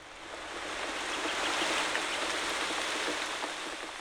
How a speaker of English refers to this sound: Just as the door slammed, it began to rain.